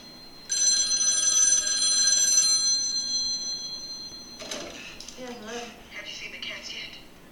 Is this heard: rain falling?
no